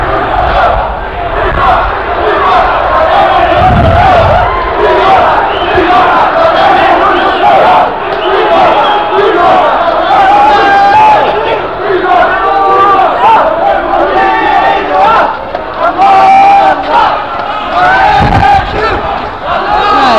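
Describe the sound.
A crowd of demonstrators who have left a building, marching arm in arm in a block into the Roemer Visserstraat, shouting and chanting loudly and continuously, many voices overlapping in a dense, raucous roar with rhythmic surges, plus occasional low thumps.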